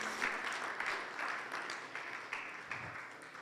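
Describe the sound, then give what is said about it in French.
An audience applauding the Lord together, a dense, steady wash of many hands clapping at a moderate level with no voices standing out, holding evenly throughout. “Applaudissons le Seigneur.”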